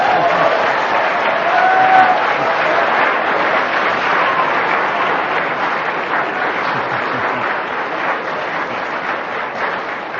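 A crowd applauds steadily for about ten seconds, a dense, even wash of clapping that stays loud throughout and tapers only slightly at the end, with faint voices mixed in.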